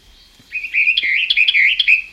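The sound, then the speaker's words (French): A Western Orphean Warbler sings its French song, a rich, continuous phrase of fluty, warbling notes, rising and falling in pitch with a few sharper accents, loud and clear against a quiet background with no talking. “Voilà son chant français.”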